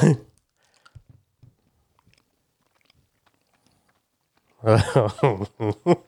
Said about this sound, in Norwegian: Ja, det må tyggas och svälles det här. Ja. Det är bara att svälla.